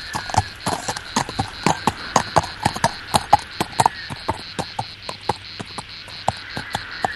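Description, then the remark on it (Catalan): A horse approaches across a hot, arid plain, its hooves clip-clopping in a steady, even rhythm, each hoof strike sharp and distinct, over a constant background of buzzing insects and chirping crickets, with no voices. “Sembla que s'apropa un cavall.”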